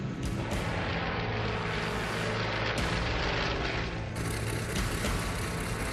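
A light aircraft engine drones steadily and loudly as the plane climbs after takeoff, a dense, rough roar with a low throbbing hum underneath, holding constant throughout with no voices.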